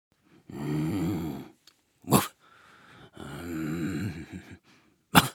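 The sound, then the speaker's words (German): A voice imitates a dog snoring: two long, rumbling growly inhales, each followed by a sharp breathy puff, fairly loud with brief pauses between. “Der wache Hund träumte gut und schnarchte so.”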